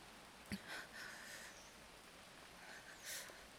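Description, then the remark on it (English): Soft, steady rain hisses through a storm at a school, fairly faint, with a couple of brief sharper splashes breaking the even patter. No one speaks. “Scared of the storm?”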